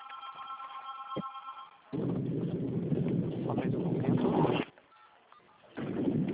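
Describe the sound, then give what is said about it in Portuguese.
Steady electronic phone keypad beeps from someone typing on their phone sound for a couple of seconds over a muffled phone line, then give way to loud, rushing road or wind noise that comes and goes while the person on the line is driving. “Eu acho que tá digitando alguma coisa no seu telefone.”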